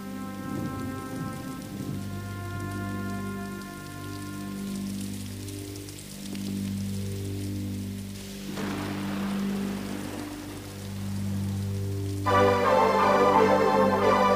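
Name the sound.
soft rain falling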